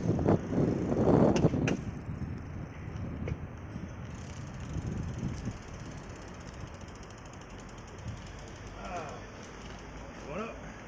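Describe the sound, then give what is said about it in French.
A cycling peloton sweeps past in a loud whooshing rush of tyres and chains, then fades into steady freewheel ticking and clicking as riders coast by, with faint voices underneath. “Je vois là-bas le peloton.”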